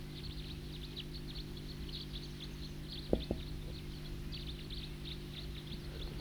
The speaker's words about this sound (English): The bird that was tooping is now in song.